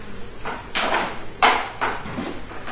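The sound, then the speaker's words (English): Nails being hammered: about five dull, irregular knocks over a steady background hiss, with one louder strike in the middle. No one speaks. “What's going on in there? Do you know? No. What? Banging nails.”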